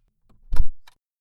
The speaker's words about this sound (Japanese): じゃあドア閉めるよ。